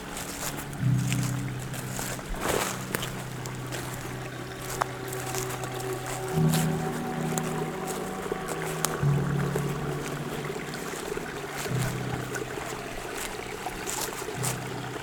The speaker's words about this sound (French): Clapotis, vous invitant très certainement à revenir ici ou là-bas pour une nouvelle excursion sonore.